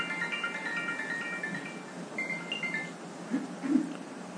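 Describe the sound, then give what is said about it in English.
A mobile phone ringtone for an incoming call from a brother plays a bright, repeating electronic melody for a few seconds over a murmuring room, then cuts off, leaving a couple of soft knocks. “I have my family I let ring through.”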